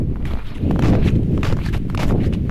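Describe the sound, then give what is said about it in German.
A meteorologist walks through snow in the wind at the German polar research station Neumayer III on the coast of Antarctica, at temperatures slightly below 0 °C: steady, heavy crunching footsteps, about three per second, over a constant low wind roar. No one speaks. “Wer da im Wind durch den Schnee stapft”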